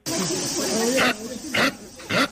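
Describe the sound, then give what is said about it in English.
A capybara gives three short, harsh, breathy barks at a steady pace, mixed with lower grunting and whining sounds. “I found this sound of a capybara online.”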